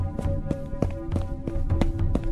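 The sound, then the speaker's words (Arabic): Quick, evenly spaced footsteps approach in a steady rhythm, about three per second, over a constant low humming drone. No one speaks. “استنوا، في صوت خطوات جاي من نفس المكان.”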